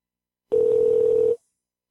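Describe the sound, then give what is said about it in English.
A telephone line ringing on an outgoing call placed during the live radio show Wrestling Informant Radio: a single steady, mid-pitched ring tone that holds for under a second, then cuts off into silence, with a brief noise at the very end. “Give it another go here. And we're ringing.”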